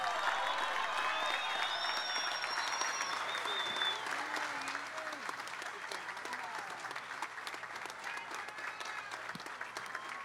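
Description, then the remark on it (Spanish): A crowd applauds steadily for about ten seconds at an event marking the 474th anniversary of the city of Ibagué, a dense wash of clapping that stays loud throughout, easing slightly about halfway, with faint cheers and voices mixed in. “Bueno, a ver todos, un fuerte aplauso.”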